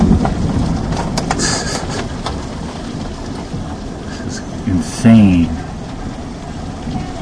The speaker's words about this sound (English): This is an incredible thunderstorm. Just check it out here. Lightning. Listen to this. This is crazy. It's a crazy storm.